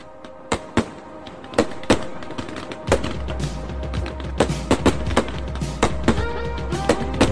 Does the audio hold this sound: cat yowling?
no